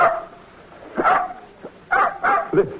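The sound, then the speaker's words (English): A dog barks a few times in short, sharp bursts, two of them coming close together near the end, with quiet pauses in between and no voices. “Listen to the wonderful music. Nice, Blackie, nice dog”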